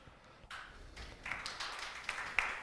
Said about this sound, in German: Der hier mäßig erscheinende Applaus ist nur dem technischen Equipment geschuldet.